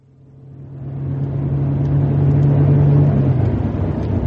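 car engine driving

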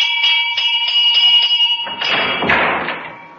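front doorbell ringing

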